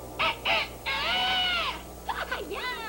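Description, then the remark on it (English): A person imitates a crow cawing: two short, loud caws, then one long drawn-out caw, ending with a few wavering, squawky calls. “Just a crow. Oh, a little crow.”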